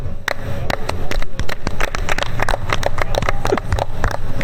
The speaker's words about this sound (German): Oder wie unser Einstiegsapplaus, der war ja eigentlich geplant, das müssen wir den Leuten jetzt mal vorführen, eigentlich war ja geplant, dass diese Sendung beginnt mit folgendem.